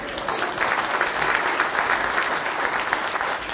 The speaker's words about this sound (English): Round of applause.